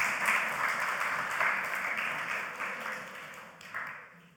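An audience applauds with a dense, steady wash of clapping that holds for about four seconds, then thins and fades toward the end. No one speaks over it.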